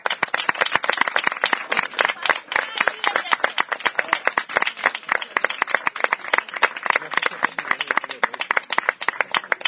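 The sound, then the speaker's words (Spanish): An audience at an open-mic event applauds steadily for about ten seconds, a dense, even roar of many hands clapping at once, loud and bright throughout with no pause or fade. “Y nada, el último aplauso para vosotros y vosotras, porque es que si no, no sería bueno.”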